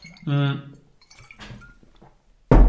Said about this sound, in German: So, ich nehme jetzt ganz kurz einen Schluck Wasser.